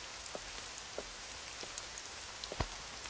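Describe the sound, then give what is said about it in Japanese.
Steady rain falls with a soft, constant hiss, broken by scattered sharp drips and patters of drops hitting a surface, one louder splat near the end; no voices. “そりゃ10時間近くも雨の中立ってりゃ疲れるでしょ。”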